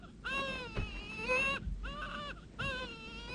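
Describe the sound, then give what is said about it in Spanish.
A three-month-old baby cries in three drawn-out, wavering wails separated by short breaths, fairly loud, with no talking over it. “Cualquiera puede oír su llanto. Por caridad, haz que no llore.”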